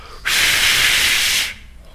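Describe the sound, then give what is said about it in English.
A voice imitates air hissing out of a leak on a bus: a single loud, steady, bright hiss lasting just over a second, starting abruptly and stopping cleanly, with no other talk. “So the air was blowing out of that thing, making a mess.”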